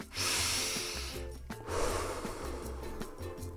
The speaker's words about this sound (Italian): Allora, facciamo un respiro. Avete sentito l'aria che entra nel naso, poi scende, riempie i polmoni?